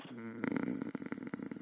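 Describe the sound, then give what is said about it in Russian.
A rumbling purr made by a human voice imitating a cat purring, with a quick fluttering pulse that starts after a short hum and continues steadily, fairly loud. “Вот так они примерно мурлычут.”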